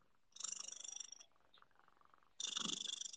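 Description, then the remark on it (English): A female cat purrs into the microphone in two loud, rapidly pulsing rumbling bursts separated by a short quieter pause, with no talking. “Chunkers purr into the microphone.”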